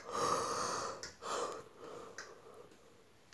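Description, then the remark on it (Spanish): A tired woman's long, breathy yawn with a drawn-out airy exhale, then a shorter breathy follow-up that trails off, with no talking. “Joder, en serio, no paro de bostezar, tan cansada estoy.”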